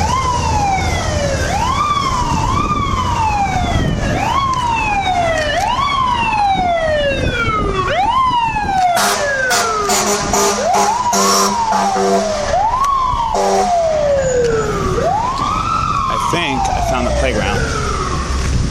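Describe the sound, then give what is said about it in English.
A fire truck siren wails in repeated rising and falling sweeps, loud and steady, with a burst of horn-like blasts midway, over rumbling street traffic on 81st Street. “Here comes a fire truck.”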